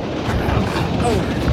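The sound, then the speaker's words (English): A moving train rumbles on its rails, a loud, continuous low roar with rattling mechanical texture that holds steady throughout. “We've got to stop this train.”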